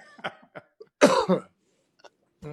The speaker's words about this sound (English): You need to clear your throat.